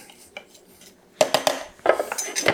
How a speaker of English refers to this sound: Now I've got stuff as I'm pulsing it. It's building up sort of around the wall of the food processor. So I'm actually gonna take my spatula and just knock everything down.